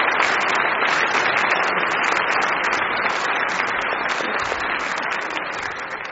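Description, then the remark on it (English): A crowd claps steadily for boys and girls who performed that morning, a dense patter of many hands that holds strong throughout and eases off only slightly at the very end, with no voices cutting through. “And I think maybe we could give them all a big round of applause to tell them how brilliant they are.”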